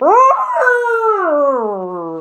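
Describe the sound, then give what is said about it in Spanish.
A loud, sustained trumpeting call about two seconds long, starting high and sliding steadily lower, most likely a human voice imitating an elephant trumpeting. No other sounds. “Así que no pudo aguantarse más y levantando la trompa, gritó lo más fuerte que pudo.”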